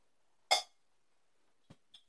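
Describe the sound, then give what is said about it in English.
A single bright clink of glasses touching in a toast over cocktails of strawberry wine, Tennessee whiskey, lime juice and ginger beer, sharp and ringing briefly before fading, followed by two faint soft clicks a moment later amid quiet. “Well, let's do a little cheers. Cheers.”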